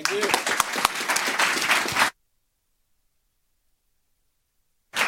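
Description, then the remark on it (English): A crowd at a conference in Strasbourg claps and cheers for the volunteers in a dense burst for about two seconds, then the sound cuts to complete silence before briefly returning at the very end. “So please pat yourself on the back and applaud your neighbours on here.”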